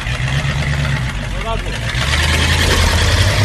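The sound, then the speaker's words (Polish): A steady, loud vintage tractor engine from 1952, a tractor without a cab, rumbles with a low throbbing drone that continues for the whole stretch, and a brief voice-like tone rises over it midway. “Czy nie boi się pan tego obcowania przez wiele godzin z tym hałasem, drganiami silnika, no i oczywiście ze spalinami, które przed panem będą się tutaj z tych rur”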